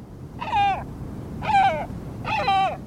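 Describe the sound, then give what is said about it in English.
Three harsh, drawn-out calls of a great black-backed gull, the world's largest gull, each slightly falling in pitch and repeated about a second apart, ring out clearly over a low, steady rumble of background noise. “It's a great black-backed gull, the world's largest gull.”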